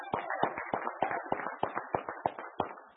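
A brief round of applause from a small group, sharp claps falling in a steady, fairly even rhythm, about ten distinct beats over three seconds, moderately loud with no talking.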